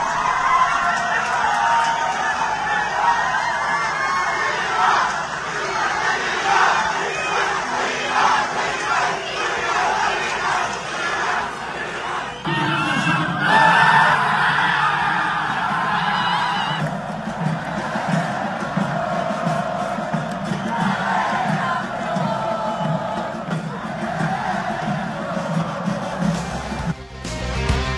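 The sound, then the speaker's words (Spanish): A large crowd of football fans celebrates outdoors in the Macro Plaza after the final whistle of the final in which Tigres beat Chivas for their eighth title, shouting and cheering continuously with loud, chant-like bursts and whoops that swell and overlap for the whole stretch. “y cómo se transforma todo esto y la fiesta ya en la Macro Plaza, después de que el árbitro da el silbatazo final. Aquí escuchamos parte del ambiente.”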